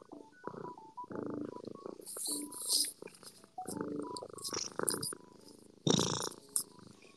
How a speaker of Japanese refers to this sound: ちょ、ぐるぐる言っておる。ちょ、猫ぐるぐるお聞かせしましょう。